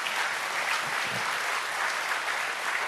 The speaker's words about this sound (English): go ahead and clap for it, please